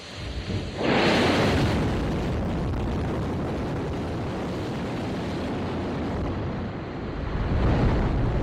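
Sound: rocket launch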